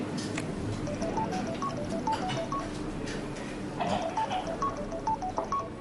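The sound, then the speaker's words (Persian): A mobile phone at a workplace beeps out a quick melody of short electronic tones, the tune playing twice in a row over a steady hiss of background noise, no voices. “بازم موبایل؟ مگه صد بار بهتون نگفتم موبایل تو محل کار ممنوعه؟”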